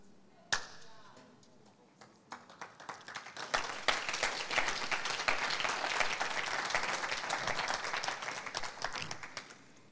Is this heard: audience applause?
yes